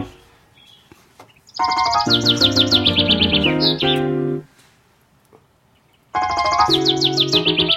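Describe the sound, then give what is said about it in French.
A nightingale sings in rapid, bright trills over sustained piano chords, heard in two loud passages separated by a brief near-silent pause; no one speaks. “C'est un rossignol, hein.”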